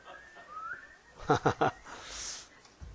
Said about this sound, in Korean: 휘파람 불어. 이거 휘파람 불 수 있어요? 한번 불어봐.